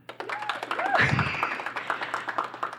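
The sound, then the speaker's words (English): An audience claps to vote in a matchup, a dense, steady burst of many overlapping hand claps, with scattered cheers and whoops rising briefly in the middle before the clapping continues. “Okay, so if you would like to vote for Anka Goms, please clap.”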